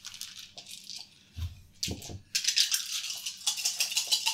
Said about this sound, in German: Okay. Würfeln. Ich würfel jetzt mit 6 Würfel.